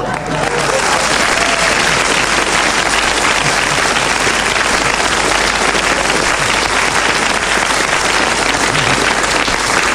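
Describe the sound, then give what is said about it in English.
Loud, sustained applause from a large audience fills the whole stretch, a dense steady patter of many hands clapping at once with no pauses. “I don't know why you're clapping that, but Clement Freud kept going till the whistle went and has increased his lead even further.”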